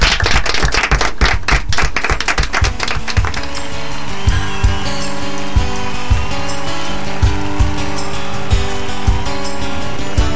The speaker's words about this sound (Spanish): Y bueno, esto fue todo por hoy. Nos despedimos, como siempre, con un fuerte aplauso.